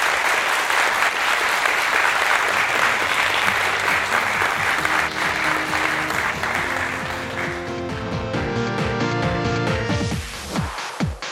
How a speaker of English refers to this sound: But before I do that, let's actually do a round of applause for Dr. Sears, if we could. Please.